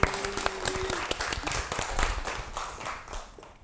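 An audience breaks into a burst of clapping, a dense wash of many hands that holds steady for a few seconds and then gradually thins and fades out.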